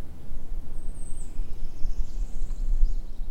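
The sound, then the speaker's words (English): A distant, faint yellow-throated warbler song: a thin, high series of notes that steps downward in pitch, heard far off over a low outdoor rumble. “There's a yellow-throated warbler way back, that falling song, that chilly, chilly, chilly, chilly, chilly, chilly, chilly.”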